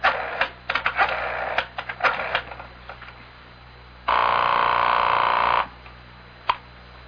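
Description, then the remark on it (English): A telephone handset is picked up with a clatter of clicks and rapid dialing, followed by a steady buzzing line tone for a moment, then one last sharp click. No one speaks. “You just pick up the phone and there you get right through.”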